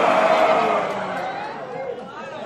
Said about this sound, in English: Come on, ladies, let me hear your roar. Come on, guys, let me hear your roar. Давайте, ребята, порычите.